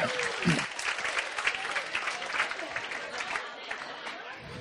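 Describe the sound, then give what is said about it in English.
An audience claps steadily for several seconds for the winners of a quiz who answered Thailand, a dense, even patter of many hands that never quite peaks or fades, with a few faint voices mixed underneath. “Thailand, the winners, give them a clap.”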